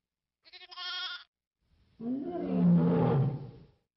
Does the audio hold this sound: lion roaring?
yes